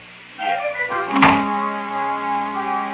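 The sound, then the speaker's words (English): A door swings shut with a single solid thud over a steady humming tone that continues before and after the impact. “Would you mind closing the D-double... Door!”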